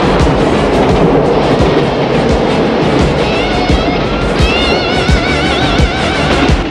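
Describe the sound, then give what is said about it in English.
A train rumbles past on an elevated railway downtown, loud and steady throughout, with clattering wheels and high squealing metal tones rising in the second half. “Downtown, a train on the overhead railway passes by.”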